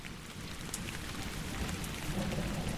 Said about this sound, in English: Oh, I can do this, actually. That is fresh rain smell.